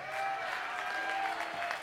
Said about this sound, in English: Could we get a round of applause for Topaz as well?